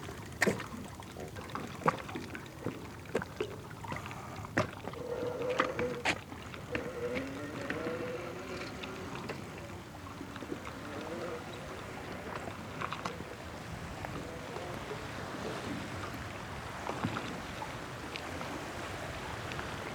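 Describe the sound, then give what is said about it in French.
Sea waves wash and lap against the shore in Finistère, France, in a steady churn, with scattered splashes and clicks of water breaking over it throughout. “J'enregistre les vagues, les allées et venues des gens, les oiseaux.”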